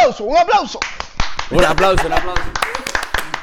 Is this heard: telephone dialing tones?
no